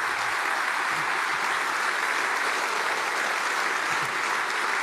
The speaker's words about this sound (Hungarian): Megpróbáltam kivárni a taps végét, de nehéz, annyira izgatott lettem.